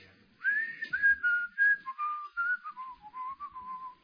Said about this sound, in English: wrote a little song which began with a whistle. Do you know it?